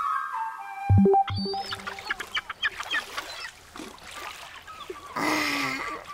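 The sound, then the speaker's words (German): Sunny beach ambience with sea water splashing and washing in bursts, a louder rush of surf near the end, and shrill bird calls chirping over it early on; no one speaks. “Schön am Strand. Herrlich, die Sonne, das Meer.”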